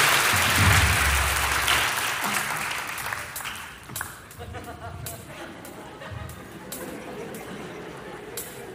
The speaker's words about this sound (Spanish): Un aplauso para estos dos mártires que han soportado estoicamente nuestros embates.